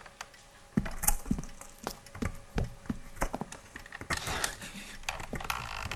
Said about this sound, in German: Da war versucht jemand, die Tür zu öffnen.